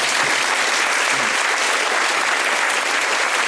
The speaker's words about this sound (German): Vielen Dank, dass ihr auch heute Abend hier seid. Dafür gibt es einen kleinen Applaus.